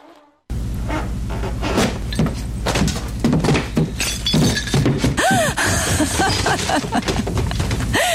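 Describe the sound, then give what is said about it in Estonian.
A floor gives way as someone falls through it, with a loud, sustained crash of splintering and breaking debris, dense clattering impacts tumbling on for several seconds, without any voices. “Esimesele korrusele minnakse ikka trepist, mitte läbi põranda.”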